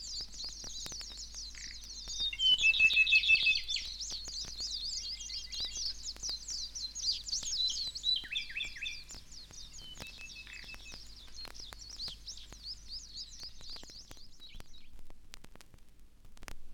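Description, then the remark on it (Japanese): A dense forest bird chorus on Okinawa Island, Japan: Ryukyu robins, Japanese bush warblers, brown-eared bulbuls and many white-eyes twittering and chirping together, with overlapping high trills and calls filling the air continuously, no voices. “鳴いていますのは赤ひげ、ウグイス、ヒヨドリと、それにたくさんのメジロです。”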